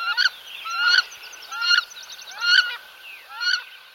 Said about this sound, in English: This month also brings wood ducks, the male being the most vividly plumaged of all North American ducks, with its yellow flanks and striking red eyes.